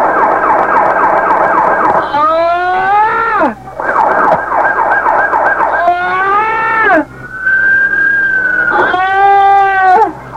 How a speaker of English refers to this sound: How about a little siren? Turn the yelper on. Now. It's coming. Siren. Hit the siren, Captain. Yeah, Captain, come on, please.